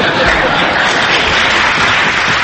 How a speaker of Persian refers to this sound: فقط یادتون باشه با این دست زدناتون کار دست من ندید.